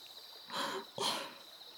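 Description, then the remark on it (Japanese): Two soft, wet swishes of soap lather with faint bubbly crackle as the bubbles pop, quiet, separated by a brief pause against a low steady background hiss. The soap contains ylang-ylang essential oil. “こうして泡がはじけると、あーっと甘く柔らかな香りがあたりに広がっていきますね。”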